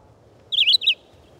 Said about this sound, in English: The abundant red-eyed vireos in the treetops can become monotonous in the regularity of their short, robin-like phrases.